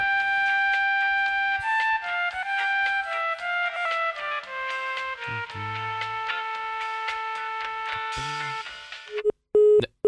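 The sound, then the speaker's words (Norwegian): A telephone busy signal on a call to Jysk Telefon's free service number in Denmark: a steady run of electronic tones stepping between pitches for several seconds, fairly loud, ending in a few abrupt clicks. “Alle linjer er optaget i øjeblikket.”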